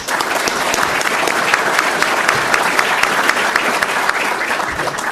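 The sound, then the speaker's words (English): Steady, dense applause from an audience fills the whole stretch, many hands clapping at once at a fairly loud, even level without any break or speech over it. “Round of applause.”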